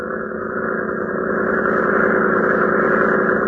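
The powerful motor pump of a Red Cross cutter runs steadily as the boat edges into a floodgate during a flood, a loud, dense engine drone with a churning low rumble that holds constant throughout, with no voices.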